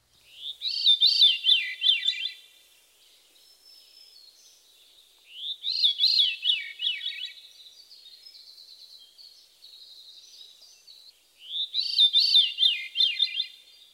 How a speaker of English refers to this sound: The Veery's haunting song consists of a series of downward spiraling flute-like notes. Listen for the descending pitch of the successive spirals.